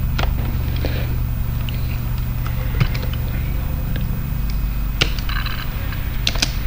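A steady, low engine drone from an engine running outside where somebody is putting a drive down hums throughout with a constant rumbling pitch, while scattered sharp clicks and taps, like keys being struck, pop up over it.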